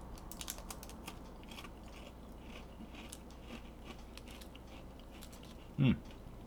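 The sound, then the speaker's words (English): Someone chews a small, flaky heart-shaped cookie, producing a stream of quiet, crisp crunches and crackles in an irregular rhythm, ending with one louder, duller thump. “Okay, it's got that texture. They're flaky cookies, shaped like a heart.”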